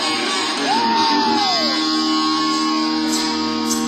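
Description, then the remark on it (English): A large audience in New Jersey screams and cheers loudly and continuously, with one piercing whoop rising and falling above the roar near the start. “If you feel you got joy in your heart, you might as well scream right around, do something joyful tonight.”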